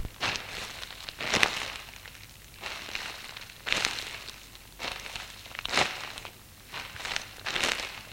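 Footsteps of a man walking away from a doorway crunch softly through soft, melting late-winter snow under a grey sky in mild weather, about eight muffled, crinkly steps at an unhurried, slightly uneven pace, fairly quiet with no voices.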